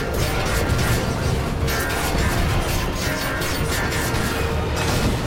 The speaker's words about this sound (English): Logan claws the fire escape, shredding it from the bottom up in showers of sparks.